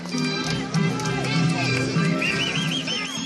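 Walking horses prance around a dirt oval track in Shelbyville, Tennessee. Their hoof beats land in a steady rhythm, with occasional whinny-like calls and a low murmur of fans cheering from box seats in the background.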